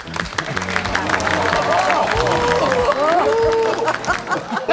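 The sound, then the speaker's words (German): A crowd breaks into steady applause that lasts throughout, with many hands clapping at once, mixed with lively voices and a few whoops rising above the clapping. “Ich finde, das ist ein Applaus wert.”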